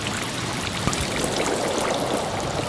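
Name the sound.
rushing stream water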